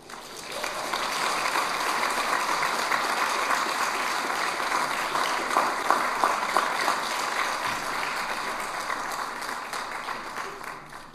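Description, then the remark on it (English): Steady applause from an audience for four new formal members of TEC being recognized on stage, many hands clapping in a dense, sustained patter for about eleven seconds, with a few sharper claps standing out partway through. “They don't even clap for me. They clap.”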